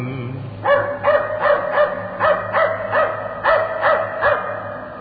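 A dog barks about ten times in a steady, evenly spaced series of sharp barks. A low background hum sits underneath, and no one speaks.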